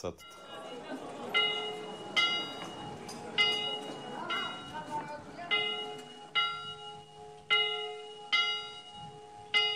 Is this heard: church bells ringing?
yes